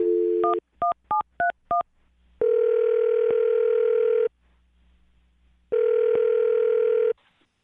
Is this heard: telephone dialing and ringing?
yes